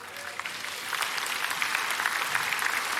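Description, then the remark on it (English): An audience applauds steadily for the full three seconds, a dense, bright wash of many hands clapping at an even, fairly loud level with no voices standing out. “You know, don't applaud me, applaud the Lord and His grace, and applaud my wife.”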